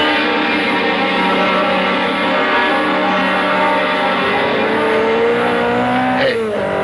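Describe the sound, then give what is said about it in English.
A loud, high-revving sports car engine whines steadily as it approaches, then roars past at high speed, heading west on Trumbull, with a sharp drop in pitch near the end. No one speaks. “That maniac driving at that speed. All units. A sports car.”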